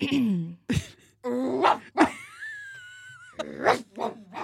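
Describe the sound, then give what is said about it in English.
A person imitates a dog with a string of vocal barks, yips and a drawn-out whine, fairly loud, with short pauses between the bursts. “How would you put all of that together in a bark?”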